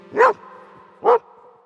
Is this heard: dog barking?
yes